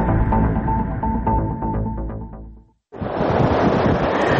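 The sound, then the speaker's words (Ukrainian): Tonal, music-like sound fades into a brief silence, then loud, steady roaring surf breaks in, big Atlantic Ocean waves churning on the coast amid strong wind buffeting the microphone. “Кажуть, що хвиля може протриматися до 5 днів, але не впевнені, бо все тут знає тільки сам океан.”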